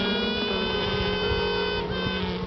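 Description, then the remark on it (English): A virgin queen bee's piping, made to find rival queens in a queenless hive, rings out as a steady, high, reedy tone with buzzy overtones, sustained without pause over a low hive hum and wavering slightly near the end. “The first one born looks for the other queen bees by making a piping sound.”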